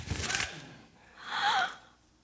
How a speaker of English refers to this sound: But if you'll unwrap that package, you may see why you had me going a while at first. Nimble fingers tore at the string and paper, and then...